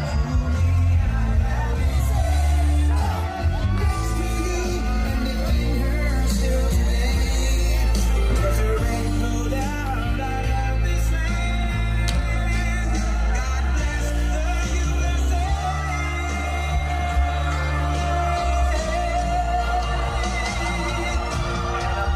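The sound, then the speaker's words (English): A large crowd at a Trump rally in the Bronx roars and cheers steadily for over twenty seconds, a dense, loud wall of voices with scattered yells and whoops layered over what sounds like music. “That's what a crowd looks like in the Bronx.”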